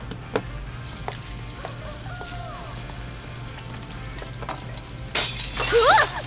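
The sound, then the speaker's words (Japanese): A plate crashes and shatters on the floor, a sudden bright burst of breaking ceramic with scattering, tinkling shards, following a quiet stretch of faint background noise and small clinks. “ごめん、お皿割っちゃった。”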